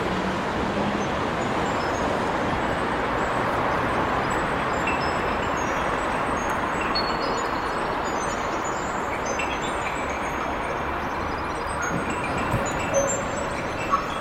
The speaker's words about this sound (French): Alors on entre un dôme, une coupole, qui se court sur une place de presque 300 mètres carrés. Et on voit, maintenant on est à l'intérieur, on voit la circulation. Mais on l'entend presque plus.